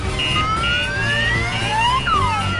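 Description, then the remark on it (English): High, squeaky voices of little slugs imitate a siren, their wails sliding up and then dropping in pitch, over a steady low rumble of rushing water as a small boat heads for the edge of a waterfall. “Little slugs make siren noises as the jammy dodger heads for the edge of the waterfall.”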